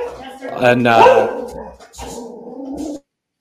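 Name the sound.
dog barking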